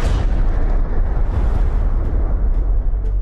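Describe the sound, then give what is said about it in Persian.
A massive, sustained atomic bomb explosion from the film Oppenheimer, the first atomic bomb detonated in New Mexico, USA, roars continuously with a deep rumbling low end and dense crackling texture, loud and overwhelming throughout, with no voices. “جی رابرت اوپنهایمر، ملقب به پدر بمب اتم، در لحظه انفجار اولین بمب در نیومکزیکو آمریکا شعری از بهاگواد گیتا، حماسه معروف هندیان را نقل می کند.”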